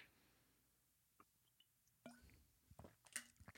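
Quiet sounds of someone sipping from a water bottle: a few soft wet slurps, swallows and small plastic clicks scattered over a few seconds, with no talking.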